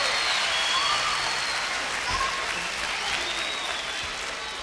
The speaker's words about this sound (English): We'd also like to have you give a fine round of applause for this fine orchestra, ladies. These are the greatest musicians in the world.